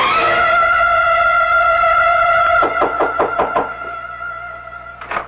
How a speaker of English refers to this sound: Wait a minute, I'll buzz the door for you. Come on up.